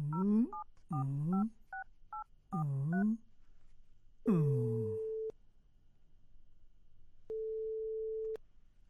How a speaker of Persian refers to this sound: باش که نمبرش بگیرم.